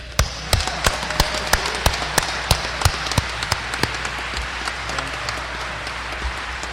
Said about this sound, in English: So let's give an applause to the citizens here tonight.